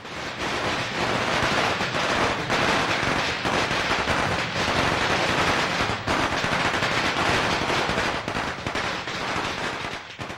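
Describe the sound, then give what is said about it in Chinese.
A long string of small environmentally friendly firecrackers pops in a dense, rapid, continuous crackle, loud, with no letup across the whole stretch and no voices. “细汗啊，都吐一地长长啊，憋憋憋憋憋啊，有放倒啊，无迄个纸人伊涂骹， 迄个叫环保鞭炮。”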